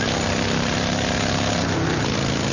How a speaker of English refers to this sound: This is what that same commercial sounds like on your motorcycle.